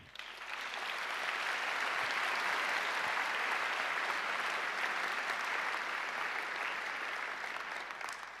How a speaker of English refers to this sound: And I would like to ask everybody in the audience to give them a big applause because they're doing a beautiful job there.